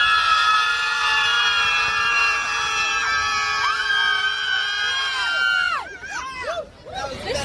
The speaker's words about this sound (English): Yeah, the screamers are back. Here are pro-death, pro-abortion screamers in New York yesterday who appear to believe again, like during the election, that screaming at the sky will change something here. Here, check this out.